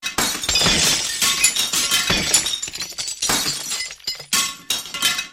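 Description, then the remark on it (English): Piles of plates, saucers and bowls fall and crash to a kitchen floor, smashing into pieces in a loud pile-up of shattering crockery, with several bursts of breaking and clattering pieces over a few seconds and no voices. “The plates, saucers and bowls crashed to the floor and smashed into pieces.”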